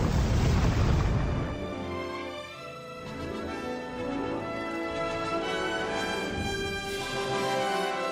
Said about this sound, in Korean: 아메리카군은 이를 놓치지 않고 건물들을 폭파하기 시작했습니다. 건물을 향해 대포를 쏘아대자 머지않아 해시한 용병 부대는 항복하고 말았습니다.